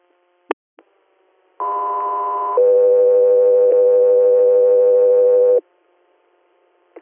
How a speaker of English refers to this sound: Guthrie Air, standby for tones.